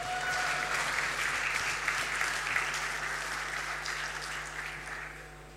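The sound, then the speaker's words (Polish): An audience applauds steadily for several seconds as the team The Sleepwalkers, from the Military University of Technology in Warsaw, is invited to present; a dense patter of many hands clapping at once that gradually thins and fades toward the end. “Brawa.”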